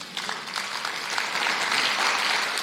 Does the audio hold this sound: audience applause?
yes